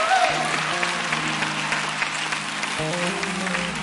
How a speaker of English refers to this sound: Come on, let's give this choir hand clap of praise. Come on.